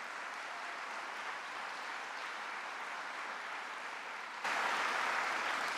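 A crowd in Buffalo claps steadily in a dense, continuous wash of applause for two people who led the effort to win more funding for the city, swelling louder near the end. No voices are heard.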